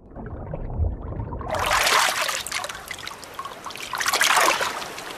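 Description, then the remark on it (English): A sea turtle breaks the surface for air: after a low, muffled rumble, water suddenly splashes and trickles, swelling twice in bright, sloshing bursts with no voices. “The turtle comes up for air.”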